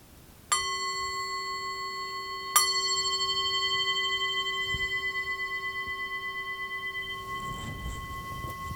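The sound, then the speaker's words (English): Meditation bells struck twice for kinhin walking meditation, about two seconds apart, each strike blooming into a clear, sustained ring that lingers and slowly fades. Fairly loud, with no voices. “So if you just get set up for that, and I will ring the bells for kinhin as well.”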